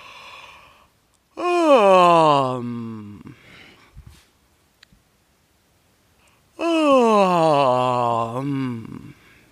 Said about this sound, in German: Achtung, bitte gehen Sie ganz sanft mit Ihrem Kiefergelenk um. Keine ruckartigen Bewegungen, keine extremen Bewegungen, kein Hin- und Her-Gemalme. Einfach ein natürliches, offenes und in diesem Fall etwas unflätiges, stimmhaftes Gähnen. Ungefähr so.